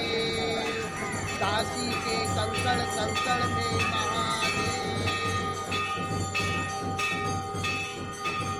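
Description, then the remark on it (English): Prayer bells in India clang in a rapid, steady stream of bright metallic strikes, their ringing tones overlapping, with a low murmur of voices and background hum running beneath throughout. “These prayer bells, recorded in India, remind me that giving us pleasure is not the only thing that music does for us.”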